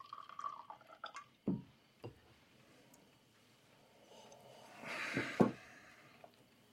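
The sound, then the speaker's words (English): A man pours himself another glass of liquor at a dining table: a few soft clinks and knocks, then a brief, swelling splash of liquid ending in a sharp tap, quiet, with no voices. “He pours himself another glass of Dutch courage.”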